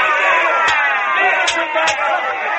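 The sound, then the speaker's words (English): A large crowd in the temple of Dagon roars in a loud, frenzied mass of overlapping shouting voices as Samson is beaten with scourges, sustained without a break across the whole moment, with a few sharper yells bursting out above the din. “And the crowd roared with the frenzy, and the priests of Dagon beat him with scourges.”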